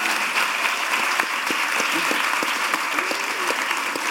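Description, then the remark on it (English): A crowd applauds the volunteers at the end of a quiz, dense overlapping claps at a constant, fairly loud level for several seconds, with faint voices or cheers mixed underneath. “A round of applause for our volunteers.”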